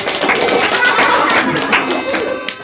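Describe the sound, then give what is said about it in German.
An audience at a stage play claps steadily as the cast is introduced, many hands making a dense, even crackle that holds at a fairly loud level throughout, without any voices over it. “Applaus!”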